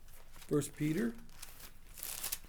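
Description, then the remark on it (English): Thin Bible pages are turned to 1 Peter chapter 4 during a Bible study, with a short, soft papery rustle near the end, following a brief murmur of voice earlier on. The page sound is fairly quiet. “Since this is a Bible study, you guys don't mind turning pages, right?”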